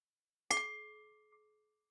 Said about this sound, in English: So we will start now and I will ring the bell.